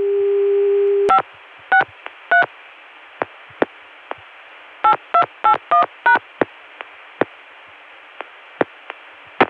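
A steady dial tone hums for a second, then cuts off as a number is dialed in short touch-tone bursts, three then six, followed by scattered sharp clicks over faint line hiss; the digits are 563 for Baltimore Centrex, 8 for the Connecticut CCSA dial tone, and 281, the code for Richmond.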